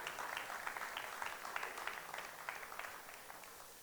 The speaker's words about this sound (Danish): Kan I give hende et klap?